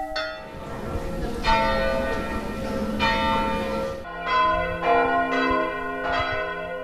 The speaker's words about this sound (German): Viermal Glockengeläut, viermal O du Fröhliche.